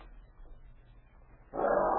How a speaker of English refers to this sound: Wait. What's wrong, Flash? A dog. He sees something, you think?